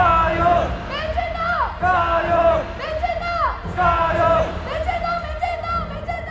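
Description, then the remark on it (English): A large crowd at a Taiwanese identity and sovereignty activist event chants a short phrase in unison, repeating it about every second in a steady, loud rhythm. The chants include the Chinese cheer "jia you" and a phrase that Taiwan is the world's Taiwan. Whoops and cheers mix into the dense wall of voices. “But if you listen carefully, there was a lot of chanting about how Taiwan is the world's Taiwan, as opposed to China's Taiwan”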